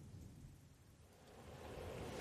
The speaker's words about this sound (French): La tempête s'étend.